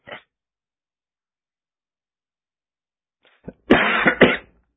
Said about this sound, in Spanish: Padre, no finjas que toses.